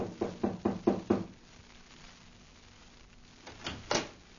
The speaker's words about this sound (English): Then he returned to the front of the house, knocked on the door.